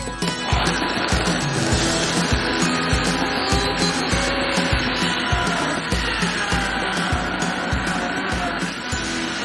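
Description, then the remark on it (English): A blender motor whirs loudly and steadily with a rough, grinding texture and rhythmic low pulsing, struggling through a thick mixture that needs more water. There is no talking. “So you could probably hear that it's actually struggling a little bit, which means it might need a little bit more water just to make it runnier.”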